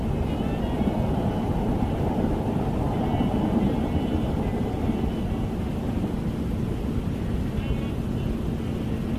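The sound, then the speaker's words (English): A train rumbles past, a steady low roar with a faint tonal hum that holds evenly for several seconds without fading, heard from the attic study of Bungalow C in Milford, Massachusetts, at 8:10 p.m. in 2022. “Train going by.”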